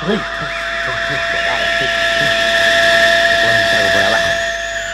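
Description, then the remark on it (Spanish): A rocket engine ignites at launch, a steady, loud roaring hiss with shrill whistling tones layered on top, holding without a break while muffled voices murmur underneath. “Comenzando cuenta atrás, motores en marcha.”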